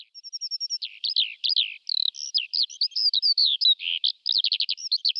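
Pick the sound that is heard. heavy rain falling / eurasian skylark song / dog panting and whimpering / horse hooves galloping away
eurasian skylark song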